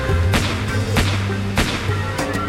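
Several sharp gunshots crack out at uneven intervals, about five in all, the last two in quick succession, over a steady low droning background.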